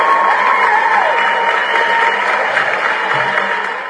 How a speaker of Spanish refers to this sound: Un aplauso, por supuesto.